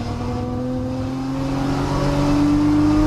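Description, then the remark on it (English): A Z car race car accelerates steadily around turn seven into the straightaway, its loud droning pitch climbing gradually over a few seconds as it gains speed, with constant roar and no voices. “Oh, no, he's going around turn seven, going into the straightaway.”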